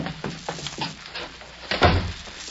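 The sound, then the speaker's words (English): A door is pushed shut with one solid, low thud near the end, preceded by a few soft shuffling knocks and taps; no one speaks. “just close the door, will you please?”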